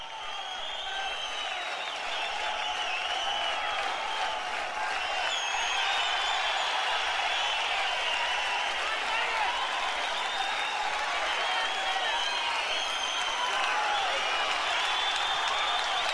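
A dense, continuous roar of a concert crowd, steady applause and shouting blended into a bright wash of noise that holds at an even loudness throughout, with no clear individual voices.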